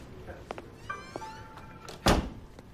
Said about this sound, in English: One of the interrogators gets up to close the door, then sits down again.